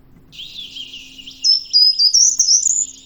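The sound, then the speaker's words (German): A lone bird sings a continuous high, warbling melodic phrase, starting soft and growing louder and brighter midway, with a faint low hum beneath and no talking. “Der Vorteil ist bei diesem Vogel übrigens, dass er eben das auch echt lange am Stück macht und dann kann man sich da so ein bisschen reinhören.”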